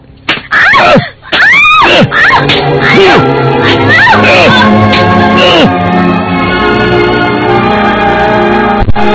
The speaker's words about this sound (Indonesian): Lihat. Cambuk rotan ini akan membuat punggungmu gosong.